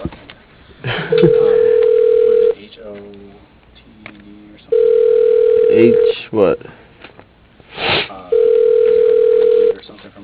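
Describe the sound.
An outgoing call ringing on a phone line: three long, steady, low-pitched ringback tones separated by pauses, with people talking in between and underneath.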